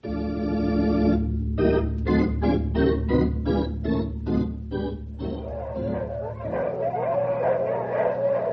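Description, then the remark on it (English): A pack of husky sled dogs in a dog team barks and yips loudly as they are urged on: a long drawn-out cry, then a quick run of sharp, evenly spaced barks, trailing into rougher excited yapping. “You huskies! Mush! Come on, you lumpers! You ain't had a good workout for a week!”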